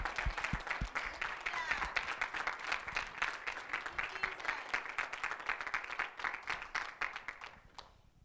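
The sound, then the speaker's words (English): An audience at a church service breaks into sustained applause for the pastor and the Lord, many hands clapping in a dense, steady patter for several seconds before it tapers off toward the end. “While he's walking back, how about another hand of applause for not only our pastor, but more so our Lord.”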